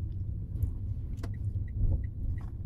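A car's engine rumbles steadily from inside the cabin as it drives, with a constant low road drone, a few faint high chimes or ticks, and no talking.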